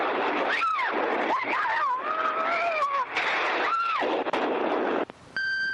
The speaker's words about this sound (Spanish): Dos explosiones consecutivas se han registrado hace unos minutos en la estación de Atocha, según han confirmado varios testigos presenciales.